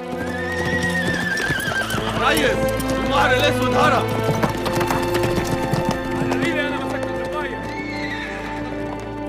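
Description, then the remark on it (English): Horses' hooves clip-clop steadily as riders move off, leading away a white mare by a rope tied around her neck, mixed with repeated loud neighs and whinnies over a dense, continuous background. “The black colt watches them ride off with his mother.”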